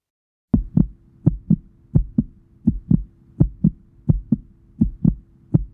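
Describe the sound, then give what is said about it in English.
A fast heartbeat thumps steadily on its own, each beat a low double thud repeating in a brisk, even rhythm with no voices. “This is a heartbeat. It's quick.”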